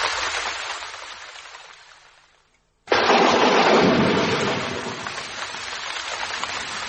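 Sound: thunder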